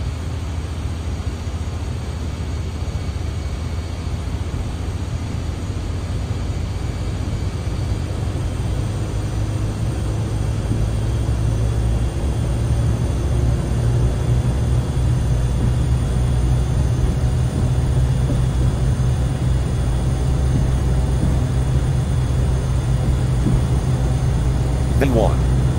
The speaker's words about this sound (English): Roger. Release parking brakes. Parking brakes have been released. We are ready to roll. Apply takeoff thrust. Roger. Applying takeoff thrust.